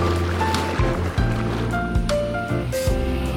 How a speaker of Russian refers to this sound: Тогда тебе на корабельную набережную. Катер уже отходит.